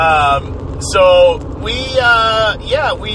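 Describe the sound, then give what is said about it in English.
A voice imitates cars whooshing past, coming the other way on a closed highway, with several rising and falling engine-like hums over a steady low rumble, loud. “The highway's closed. Highway's closed. Cars coming the other way.”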